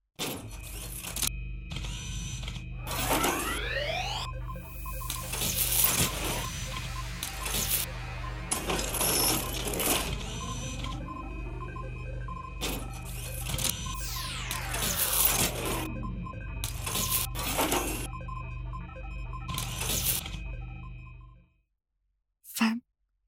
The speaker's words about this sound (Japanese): あなたの頭上の生体プリンターが動き始める。プリンターがあなたの体を作り変える準備を始める。